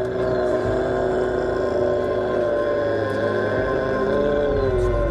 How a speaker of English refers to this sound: Very Klingon, isn't it? The Death Howl.